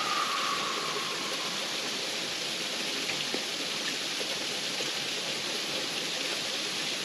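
nature, creek water flowing

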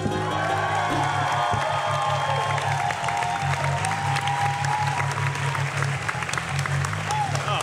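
crowd, audience applause and cheering

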